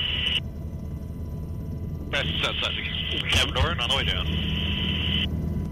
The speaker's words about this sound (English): After the dummy is returned to the helicopter via the basket, the helicopter hovers over the rescue swimmer so he can attach himself to the hoist and return to the helicopter.